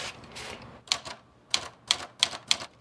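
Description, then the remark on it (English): Typewriter keys strike in a steady, moderately paced series of crisp clacks as a standardized test is typed on a refurbished typewriter named Erica, each stroke sharp, with brief mechanical rattles between strokes and no voices. “He adeptly rolls a piece of paper into Erica and conducts a standardized test.”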